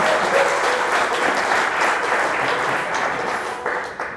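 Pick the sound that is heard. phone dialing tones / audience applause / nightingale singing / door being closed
audience applause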